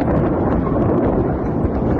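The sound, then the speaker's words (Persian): A loud, deep rumbling roar from an explosion caused by an Israeli airstrike in an area of eastern Tehran, Iran, rolls on steadily for the whole stretch, a dense low boom-like noise with no distinct onset and no voices. “تصاویر منتشر شده از وقوع انفجار در منطقه‌ای در شرق تهران حکایت دارد.”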